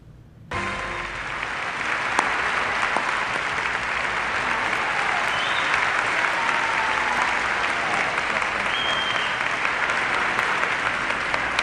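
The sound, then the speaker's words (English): Loud, sustained applause from a large audience at the 1997 Emmy Awards as Mr. Rogers is given a Lifetime Achievement Award, a dense steady wash of clapping that starts abruptly and continues without letup, with no speech over it. “And I think based on the crowd's reaction, you can see just how beloved Mr.”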